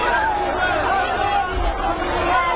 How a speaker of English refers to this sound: Cheers from Israelis watching on an outdoor screen in Tel Aviv, the three looking gaunt and frail, all taken when Hamas attacked Israel on October 7th.